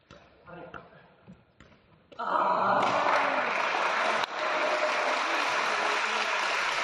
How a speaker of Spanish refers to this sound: Y en directo, Fermín, en el pabellón, se escuchaba así, atento a cómo se escuchan los toques y obviamente la ovación cuando terminaron.